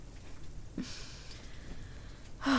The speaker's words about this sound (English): I had no idea it was gonna rain this weekend. Oh, I feel bad. Well, you know, it's our anniversary, and I got this cabin out here in the woods to surprise you, and then it just starts pouring rain on us.